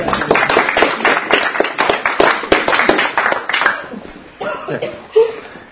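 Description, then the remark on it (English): A crowd claps in a dense burst of many overlapping hand claps, loud and steady for several seconds before thinning out, with a few scattered voices and a chuckle at the end. “Give him a clap.”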